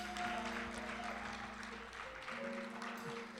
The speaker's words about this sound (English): Can we give one more hand clap for this man here?